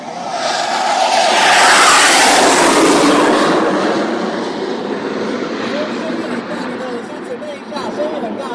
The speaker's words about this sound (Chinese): 第一架 F-16 战机呼啸而过，震耳欲聋。飞机上升时，发动机尾部的红色火焰清晰可见。现场军方解说人员说，此时发动机的推力最大，起飞成功。